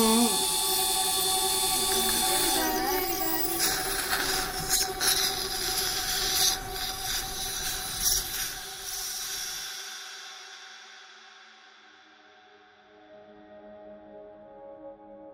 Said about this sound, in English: Short of fingernails being dragged down a blackboard, the sound of a dental drill is possibly the most uncomfortable thing I can think of.